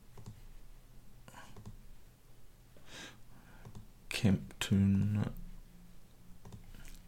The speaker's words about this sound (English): This is good. Clicking like a mad thing here now. It'll be good for my RSI.